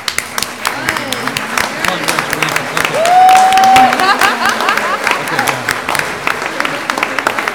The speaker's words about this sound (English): Or a supporter of one of the Olympiads, can you please stand up so we can applaud you for all your hard work?